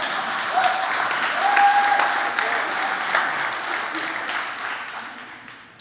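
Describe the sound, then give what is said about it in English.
Steady applause from an audience, a dense wash of many hands clapping at an even loudness for several seconds before gradually thinning and fading near the end. “Clap now by all means.”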